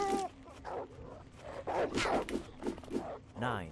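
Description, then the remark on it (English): A dog in a video game growls and snarls in a series of rough, gritty bursts lasting several seconds, fairly loud, with a brief higher whine at the end and no talking. “Nice doggy.”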